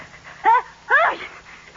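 sneeze

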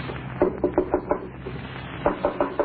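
knocking on a door

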